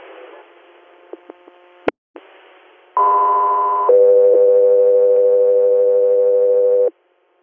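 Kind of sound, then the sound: signal or alarm, radio dispatch alert tone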